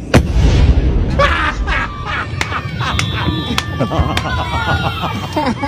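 Fireworks go off in a rapid series of sharp pops and crackling bursts, with whistling tones rising through the barrage and a steady rumble underneath.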